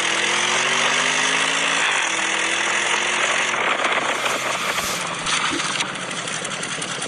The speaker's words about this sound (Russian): Это Porsche Cayenne Turbo. 550 лошадиных сил. 4,1 до 100 километров в час. 280 сколько-то максимальная скорость.